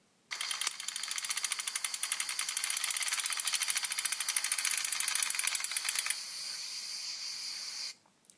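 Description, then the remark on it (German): A bicycle whirs steadily while being ridden on an afternoon ride in Italy, with a fast, even ticking like a spinning freewheel for several seconds, then a smoother hiss before it stops abruptly. “Und da ist das Schnurren vom Rad.”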